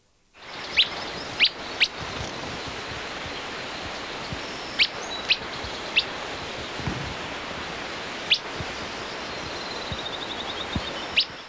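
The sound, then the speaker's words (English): Sharp, high bird "whit" alarm calls, given in response to a brown-headed cowbird, ring out singly and in pairs, about eight in all at irregular intervals, over a steady rushing background like flowing water; recorded in the Grand Canyon beside the Colorado River, Arizona. “The following whits were in response to the presence of a brown-headed cowbird.”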